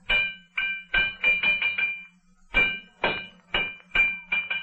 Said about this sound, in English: What is it you're forever pounding away at